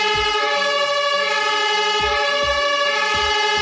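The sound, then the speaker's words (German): A German emergency vehicle siren, the Martinshorn, sounds loud and unbroken as a brassy, harmonic-rich horn tone, with low thumping pulses underneath at regular intervals and no voices. “Ich spiele das Martinshorn mal ganz kurz an, damit wir alle wissen, worüber wir reden.”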